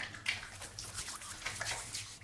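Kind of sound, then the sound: household object, shower water running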